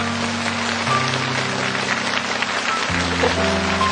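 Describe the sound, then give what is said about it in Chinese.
A studio audience applauds to welcome young members of Serve for China (Black Soil Wheat Field) arriving on set: steady, dense crackle of clapping for the whole four seconds at an even loudness, with low sustained music tones underneath. “我听说今天这个黑土麦田的所有的小伙伴们，一部分小伙伴们也来到了我们的现场，来掌声欢迎各位。”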